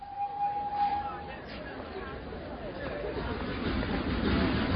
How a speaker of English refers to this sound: I waited at the station at Kilchester for the train to take me back to Broadhinny. It was market day, and the platform was very crowded.